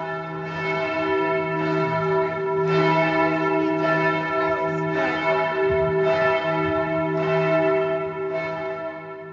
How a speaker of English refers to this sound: Matthew, we just heard some amazing church bells